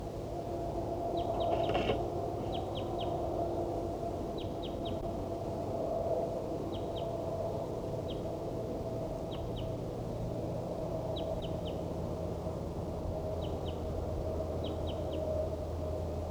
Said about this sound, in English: These are vocalizations of a wild bird. And 4-7 responding.